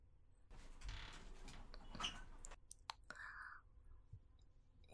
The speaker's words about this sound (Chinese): 那我开门，你不准进来，不准偷看啊。